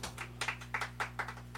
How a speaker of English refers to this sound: Thank you for those golf claps.